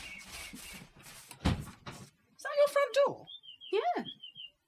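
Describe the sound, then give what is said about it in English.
A front door opens with a single dull thump beneath murmuring voices, followed by a few bright, warbling tonal notes near the end. “Front door?”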